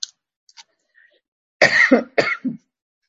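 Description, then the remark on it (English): Two harsh coughs in quick succession, fairly loud, the second slightly shorter, preceded by a moment of near silence with a few faint clicks. “I have a cough.”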